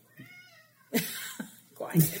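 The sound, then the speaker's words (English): A single soft cat meow rises and falls near the start, then louder voices or bursts of sound break in. “The cat says it's time.”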